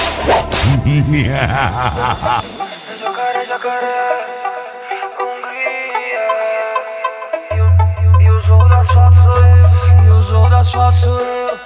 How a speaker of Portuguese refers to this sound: Baixos Saudades, Santa Catarina. Aqui, o chicote estrala.